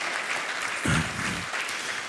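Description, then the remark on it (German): A crowd claps steadily for four volunteers in a dense, continuous wash of applause, with a brief louder swell near the middle and a faint voice briefly audible beneath it. “Applaus hier für unsere vier Freiwilligen.”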